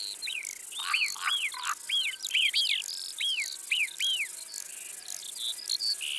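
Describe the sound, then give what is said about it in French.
Marmots high up in an area of rocks and scree give a series of sharp, high whistling alarm calls, each a quick falling note, repeated about nine times in irregular bursts over a steady high insect buzz. “on entend des marmottes qui sifflent là-haut, dans une zone de rochers, d'éboulis. Ça, ce sont leurs cris d'alarme, pour avertir d'un danger ou d'une présence étrangère dans les parages, comme la nôtre par exemple.”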